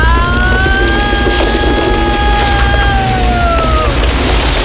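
A loud, continuous rumbling roar with scattered crunching impacts as the burning roof of a castle caves in, while drawn-out groaning, creaking tones slide slowly downward over the din.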